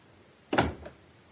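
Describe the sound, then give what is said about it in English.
A door is pushed shut with a single solid thud, followed by a softer latch click a moment later. “We'll shove the door.”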